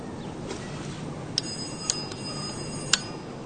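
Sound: doorbell ringing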